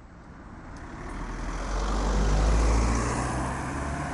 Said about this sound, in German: Es war rege Betrieb heute Mittag vor dem Motel, beziehungsweise dem Hotel Ego King, wie es heute heisst. Autos sind her und weggefahren.